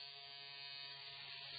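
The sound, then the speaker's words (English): Electric sheep shears buzz as shearers shear sheep inside a shearing shed, a steady, continuous motorized drone with a bright, slightly rattly edge, holding an even level throughout with no voices. “The shearers shear the sheep inside the shearing shed.”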